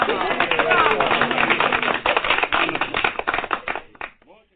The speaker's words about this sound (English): I'm going to give you an applause.